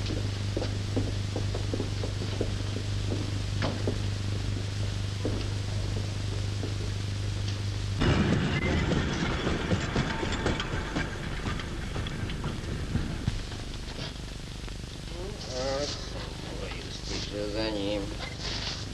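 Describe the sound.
A train pulls away from a station: a steady low engine hum gives way to a loud hiss and rattling clatter, with muffled voices and tonal squeals near the end.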